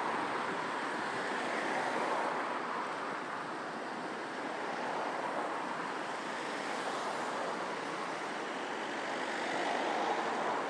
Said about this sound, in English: Lots and lots and lots of traffic.